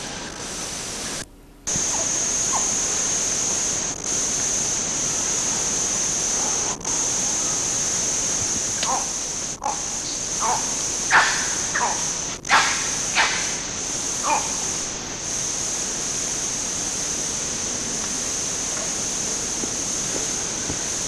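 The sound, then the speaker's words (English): Red colobus monkeys (badius) of the RUL group at Ngogo, Kibale, give a scattering of short nasal nyaw barks and thin chiss calls, clustered in the latter half, over a steady, loud hiss of forest insects. Recorded about 30–35 meters away at 11:34 on 13 July 1983. “Those are nyaw barks with chiss.”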